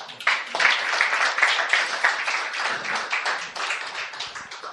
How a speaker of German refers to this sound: Ihr habt das wunderbar gemacht. Herzlichen Applaus.